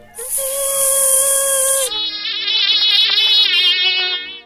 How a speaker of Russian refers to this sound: А взрослый комар дышит сразу многими дырочками, которые идут по бокам всего его тела и соединяются внутри. Кстати, именно с помощью этих отверстий комар издает свой высокий писк. По ночам над самым ухом, противно так.